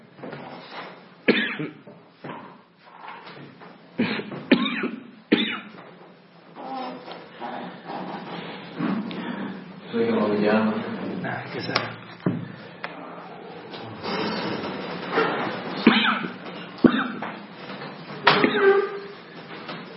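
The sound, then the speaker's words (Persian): Someone coughs repeatedly in sharp, irregular bursts, with rougher throat sounds and strained breathing between the coughs. “نه این ربطی نداره، سردرد میگیرم با هر سرفه یه بار”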